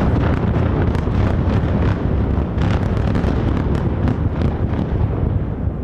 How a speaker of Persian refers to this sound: حملات بیامان اسرائیل علیه لبنان در ساعات گذشته ادامه داشته. شامگاه یک شنبه نیروهای اسرائیلی حملات خود به حومه بیروت را از سر گرفتند و آسمان این شهر از نور انفجارهای پیاپی روشن شد.